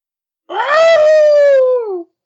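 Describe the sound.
A person imitates a wolf howl as a sound effect for the North Carolina State Wolfpack: one loud, sustained vocal howl lasting about a second and a half that rises quickly, then slowly sinks in pitch before cutting off.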